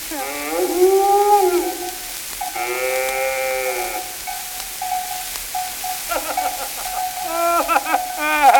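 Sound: cow mooing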